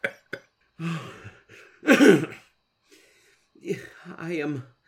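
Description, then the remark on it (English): A few sharp coughs, two quick ones at the start and a harsher, longer one midway, with strained voiced sounds and breathy vocal noises in between, fairly loud. “This cough makes it hard for me to converse.”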